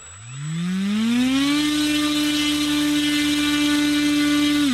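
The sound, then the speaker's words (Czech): A model airplane engine spins up, its buzzing pitch climbing quickly for over a second, then holds a loud, steady, harmonically rich whine to the end, with no voices. “Podmínky jsou dobré, akorát, že nejsou žádný stoupavý proudy, takže využíváme jenom motor.”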